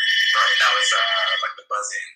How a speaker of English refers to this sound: Right, I was like, wait, that sounds like a real house phone.